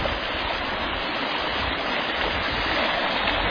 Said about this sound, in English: Many waterfalls in here.